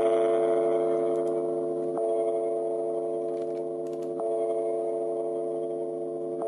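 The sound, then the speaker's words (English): A large bell, a reconstructed approximation of the original sound of the Liberty Bell, tolls with a deep, steady humming tone in E flat, struck again every couple of seconds so each new strike rings over the lingering sustain. No voices are heard. “This is probably what the Liberty Bell sounded like.”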